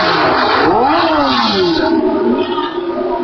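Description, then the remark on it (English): A loud race car engine roars and revs at the top of a hill climb stage, its pitch dropping and climbing again several times as it changes down through the gears, with a rough, crackling, percussive edge. “As the car comes to the top of the hill climb and then takes the turn, you can hear the percussive noise of it changing down through the gears.”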